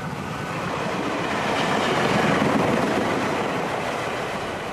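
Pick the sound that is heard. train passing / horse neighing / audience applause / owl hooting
train passing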